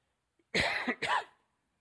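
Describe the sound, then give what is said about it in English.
A man coughs twice in quick succession, two harsh bursts separated by a brief catch of breath, with silence before and after and no talking. “I don't want to have one of my coughing fits here.”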